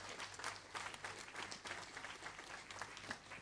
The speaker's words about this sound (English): I'll give the Lord a super clap on for it.